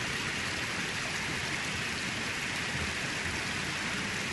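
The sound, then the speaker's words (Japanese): A waterfall with considerable water pressure pounds down in a steady, unbroken hiss and roar of rushing water, dense and constant across the whole stretch, with no voices or other sounds. “音の強さでわかる。滝の水圧は結構ある。”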